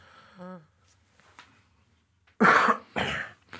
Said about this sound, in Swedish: få hostianfall